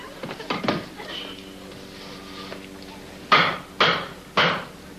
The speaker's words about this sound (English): You kneel here while I fix this leg. I think I'll use the hammer on this one. I'm even better with hammers than I am with screwdrivers.